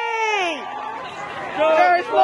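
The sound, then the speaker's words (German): A crowd in Minneapolis cheers loudly after the judge reads the verdict in the George Floyd case, finding the police officer guilty. High, wavering shouts and whoops rise over a steady roar of many voices that swells again toward the end. “Der Jubel war gross.”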